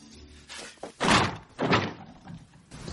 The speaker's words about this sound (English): That worked. Kicks the door and it opens up. No problem.